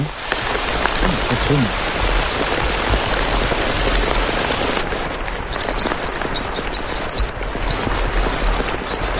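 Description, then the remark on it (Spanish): Heavy rain hisses steadily throughout, and about halfway a wren, a tiny 7-gram bird with a very powerful voice, bursts into song, a rapid run of high, bright trilling notes that carries clearly over the downpour. “Aquí un pajarito muy pequeño, 7 gramos de chochín, con una voz muy potente, que está cantando a pesar del aguacero.”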